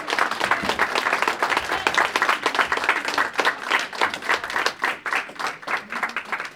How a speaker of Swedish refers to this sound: Hörni, tack så hemskt mycket för den där varma välkomstapplåden. Jag får väl säga som Ingvar Carlsson sa en gång. Ni är ju omdömeslösa som klappar innan jag säger något.